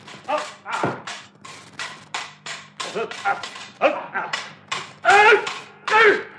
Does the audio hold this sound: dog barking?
yes